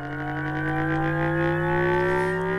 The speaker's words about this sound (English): Some were, they felt were a little bit too futuristic, like this synthetic engine sound.